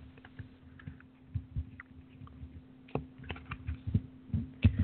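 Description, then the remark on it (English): A deck of animal cards being shuffled for a card reading: a run of soft, irregular clicks and papery slaps over a faint steady hum, with no one speaking. “As we shuffle in.”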